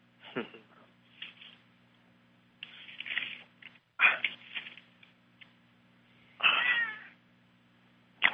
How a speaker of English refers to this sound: Do I hear a cat in the background? Oh, yeah.